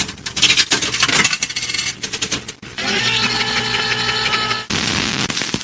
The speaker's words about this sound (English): put a quarter in that jukebox, baby, and let's see what our first song is.